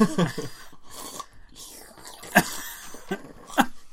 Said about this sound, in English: I keep slurping really loudly.